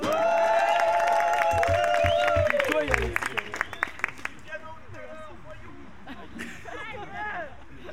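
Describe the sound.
A crowd applauds with dense, rapid clapping, a long high whoop and scattered cheers, then thins into a few scattered claps and a murmur of voices.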